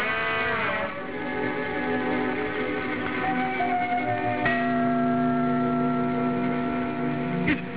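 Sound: bell ringing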